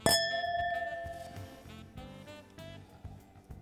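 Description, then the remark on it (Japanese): Wine glasses poured with Zao Woody Farm Petit Manseng Orange 2018, a deep-coloured orange wine, clink together in a toast with a single bright ring, their high, sustained tones slowly fading while soft murmurs and low background sounds continue underneath. “さすがオレンジワインというだけあって色があれです ね濃いですね、 うん、では乾杯。”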